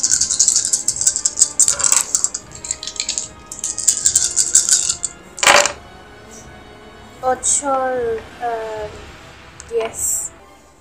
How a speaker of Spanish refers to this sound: Bueno, entonces tiras todos esos dados. 4 dados y 1 de prueba. Tenés que superar el 15.